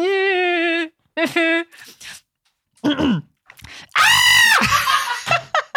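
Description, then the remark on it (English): Someone imitates a screaming goat in several loud, wavering vocal bursts: a long bleating cry, a few shorter yelps, then a harsh, shrill scream, with laughter-like sounds between. “Sort of screaming goat.”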